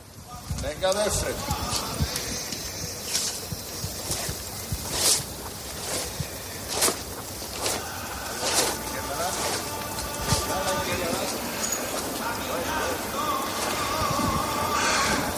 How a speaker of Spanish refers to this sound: El rachear de las zapatillas de los costaleros es lo que ustedes han escuchado en el silencio de la Plaza de la Campana.